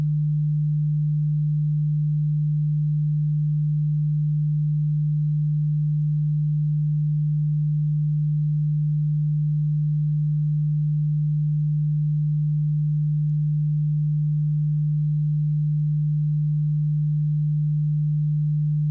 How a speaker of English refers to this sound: I have chosen 2 arbitrary tones. In your right ear, I am going to play a frequency of 150 Hz.